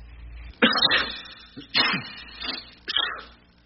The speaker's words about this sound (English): You covered your sneeze with a tissue.